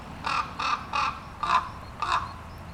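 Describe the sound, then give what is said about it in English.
Common ravens call five times in a steady series, each a short, harsh, raspy croak, with a slightly longer pause before the last two. No voices, just faint background hiss between calls. “Here are some ravens calling.”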